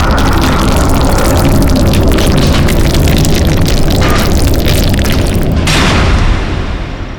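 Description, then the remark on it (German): Thunderous rumbling as a gorge closes: a loud, continuous, deep roar with crackling grit on top that cuts off abruptly, leaving the low rumble to fade out over the last second. “Und unter donnerndem Getöse schloss sich die Schlucht.”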